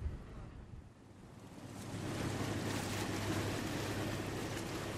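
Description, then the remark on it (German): Outdoor riverside ambience on the middle arm of the Danube, a navigable channel twice as wide as the Rhine at Basel. Rushing water and wind swell louder after a couple of seconds into a steady wash, with a low engine-like hum underneath and no voices. “Wir sitzen an der Donau am mittleren Arm, zweimal so breit wie der Rhein in Basel.”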